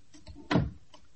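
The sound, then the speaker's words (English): A study door shuts once with a single solid thump and a brief rattling decay, standing alone against a quiet background with no talking. “I'll sit in my study and close the door, and then I won't hear anything.”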